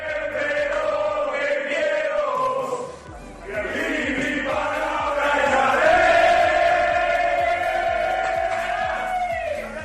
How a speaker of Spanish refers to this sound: Este es el grito, el cántico y sobre todo la celebración de los hispanos, de los hombres de Jordi Rivera, después Luis Malvar de ayer volver a abrir una página histórica en nuestro balonmano al derrotar a la selección de Noruega.